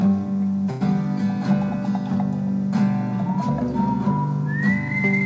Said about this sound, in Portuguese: O nosso já bem conhecido assobio